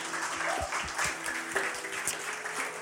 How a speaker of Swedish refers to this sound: Stor applåd!